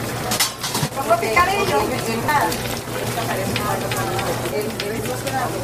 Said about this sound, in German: Die Märkte übrigens sind laut, sind sehr bunt, viel Musik, überall zischen die heißen Pfannen und es wird sehr viel geredet.